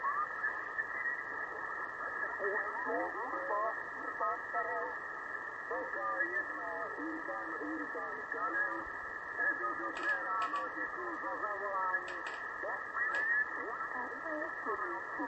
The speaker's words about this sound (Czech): Tady je nějaké rušení, tady mám nějaký, nevím, co to je, nějaký.